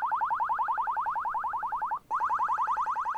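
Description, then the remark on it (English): An electronic bird-deterrent siren at a former open pit copper mine of Montana Resources, used to scare birds off the water, warbles in rapid, evenly spaced pulses, loud and steady, breaking off for a split second before resuming the same fast chirping tone. No voices. “There's other noises too, sounds of helicopters and sirens.”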